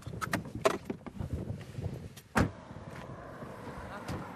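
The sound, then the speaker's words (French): Shuffling and a few clicks inside a car parked at a gas station near the border at the Col de Montgenèvre, 1860 m altitude, then a single solid door clunk before the sound opens up into quieter outdoor ambience as someone steps out of the car. “On va se garer à la station essence. Et en vérité, la frontière, elle est un peu plus bas. Voilà. On sort de la voiture ?”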